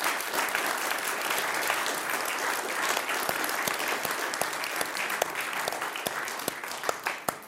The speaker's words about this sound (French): Je propose de remercier et d'applaudir nos orateurs.